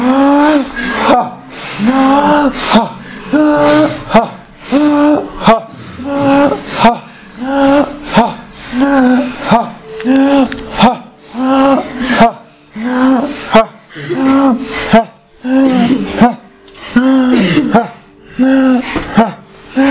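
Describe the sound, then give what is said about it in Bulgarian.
Forceful breathing in a breathing exercise, the lungs expanded deeply and the air let out sharply, in a steady rapid rhythm, roughly one sharp voiced exhale every second, each huffing burst separated by a quick inhale, continuing loudly throughout. “Дълбоко разширяване на дробовете и изпускане рязко.”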